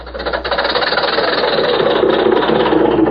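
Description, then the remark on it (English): A car motor runs steadily while the car is being ridden in, with a rapid, even chugging pulse and a buzzy rattle, loud and continuous throughout, with no voices over it. “Say, how do you like riding in this snappy car, boy? Just listen to that motor.”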